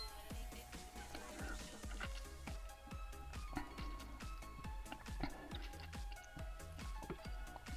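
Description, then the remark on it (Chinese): Glasses clink together in a toast to three people's first gathering, a busy run of bright, ringing taps repeating steadily for several seconds, with no voices. “为我们三个人第一次相聚，干杯！”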